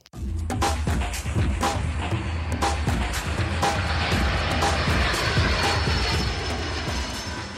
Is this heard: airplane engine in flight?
yes